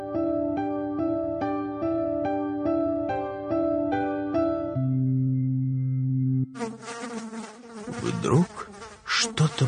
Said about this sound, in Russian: Жужжала над самым ухом Майи, и рядом на лист, где она сидела, опустилась муха.